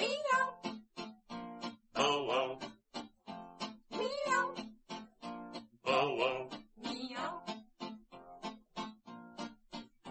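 animal, cat meowing

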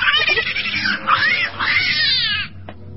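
animal, cat yowling

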